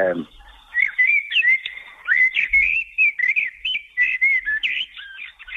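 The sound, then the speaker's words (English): A blackbird sings a rich, fluty song: a steady run of warbling, whistled phrases at a fairly high pitch, loud and clear, with no voices over it. “No, that's the fluty song, rumbly fluty song of the blackbird.”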